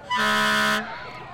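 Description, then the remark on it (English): A single loud, sustained blast of a fire truck's air horn in the Paonia High School homecoming parade, deep and brassy with strong harmonics, lasting under a second before cutting off into background crowd noise. “Even the fire trucks.”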